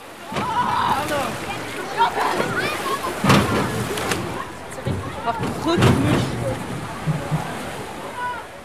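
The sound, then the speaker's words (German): Busy outdoor swimming pool ambience at the main pool with diving towers and water slides: water splashing and sloshing in irregular bursts, with a few sharper splashes, under a steady murmur of voices and chatter. “Ein paar Meter weiter ergibt sich eine etwas andere Kulisse, denn hier befindet sich das Hauptschwimmbecken mit den Sprungtürmen und Wasserrutschen.”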